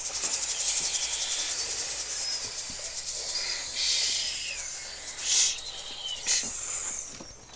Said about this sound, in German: Die Schlangen.